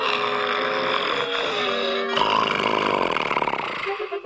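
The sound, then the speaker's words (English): Loud, exaggerated snoring by a man late at night, with a droning, buzzy tone that shifts about halfway into a rougher, rattling, fluttering snort, continuing without any talking. “You mean … snoring?”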